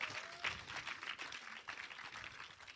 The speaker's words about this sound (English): Hey, lass uns Jesus einfach einen Applaus geben. Let's give Jesus an applause for that.